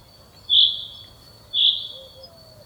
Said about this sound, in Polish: Jest jeszcze jeden rodzaj śpiewu zięby, to takie wibrowanie pojedyncze.